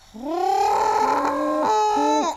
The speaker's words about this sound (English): Yeah, the pigeons are predators. They prey upon your soul. That's the noise that they're making.